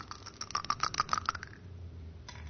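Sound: dice being thrown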